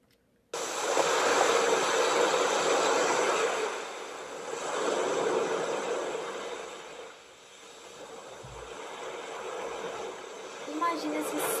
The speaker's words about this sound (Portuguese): Escutou esse som em algum lugar? Se você respondeu que é o som do mar, parabéns, você acertou também.